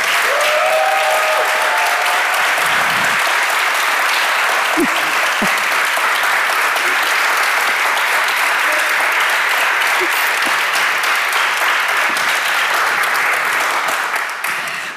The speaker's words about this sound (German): Und bitte einmal großen Applaus für Sabrina Setlow.